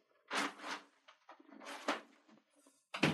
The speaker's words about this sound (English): Sorry, let me close this door.